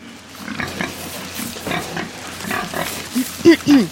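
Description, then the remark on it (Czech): A pig on a farm grunts and snorts in a busy, uneven run of snuffling noises, ending with a few louder, pitched oinks over a faint background hum. “Milé prase, jak jistě víš, vyšetřujeme na vaší farmě krádež pneumatiky.”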